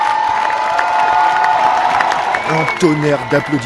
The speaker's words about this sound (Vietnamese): Tiếng vỗ tay vang rền khi chiếc xe buýt của đội tuyển Pháp đi ngang. Những người may mắn nhất đã được trông thấy một vài danh thủ.